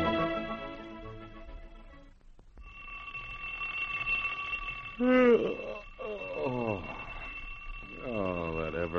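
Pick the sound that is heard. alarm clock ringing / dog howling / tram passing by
alarm clock ringing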